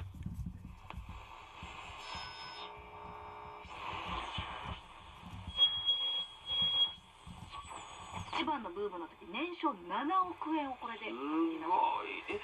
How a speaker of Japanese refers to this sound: 次に LW 超波放送を聞いてみましょう。超波はまあほとんど今放送がありますかね。